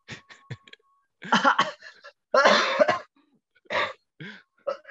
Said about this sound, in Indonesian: Aduh anjir, cuma coba batuk